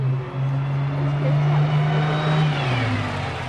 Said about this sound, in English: That's a sound bus riders in Los Angeles say they're sick of hearing. A bus so crowded it can't or won't stop, leaving them stranded.